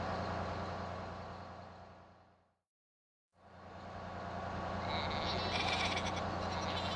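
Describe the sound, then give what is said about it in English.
A crowd of sheep on the road, blocking a bus, bleating loudly and continuously, their overlapping calls with a low engine rumble underneath and a short silent break in the middle. “There are lots of sheep on the road.”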